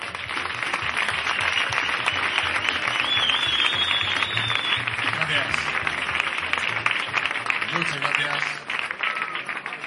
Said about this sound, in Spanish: Por favor, un fortísimo aplauso para mi compañero